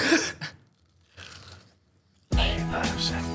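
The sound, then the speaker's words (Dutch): Crunchy biting and chewing of food in short bursts as two people each take a bite during a hot-pepper round, followed by a louder, denser stretch where a voice seems to join in over the munching. “Nemen we allebei een hap? We nemen allebei een hap.”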